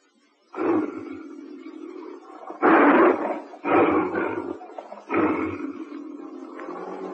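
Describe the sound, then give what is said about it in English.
A tiger roars several times in quick succession in the radio play No Other Tiger: four loud, rough bursts with a rumbling growl sustained between them, with no voices present. “No Other Tiger passed that way that night.”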